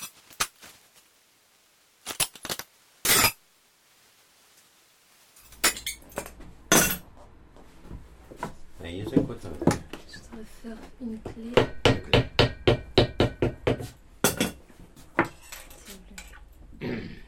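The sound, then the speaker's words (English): Sharp metallic taps and clinks ring out as a key is cut in a small shop with machines, shoes and a workbench, first a few isolated strikes, then a rapid, uneven flurry of bright high-pitched hammering over a low mechanical hum, with faint voices in the background. “Only high-pitched hammering and the key being cut remain.”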